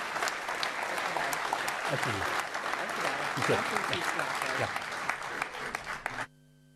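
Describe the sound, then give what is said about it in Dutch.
Steady, dense applause from 39 council members and 100 members of the public at a council meeting, sustained clapping at an even level for several seconds before cutting off abruptly, with some faint voices mixed in. “En ik wens je heel veel succes en ondersteund door een applaus van 39 raadsleden en 100 mensen op het publiek.”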